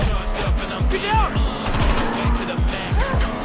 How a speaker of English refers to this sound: Lucien's window shatters as the shooters blast from close range.